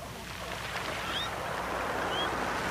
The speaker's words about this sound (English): Behind me right now, my ambiance, some beach sounds of ocean waves and seagulls sonically reversed. Listen carefully.